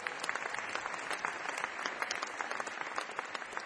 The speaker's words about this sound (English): Give Mr. Quigley, Kevin Quigley, a big round of applause.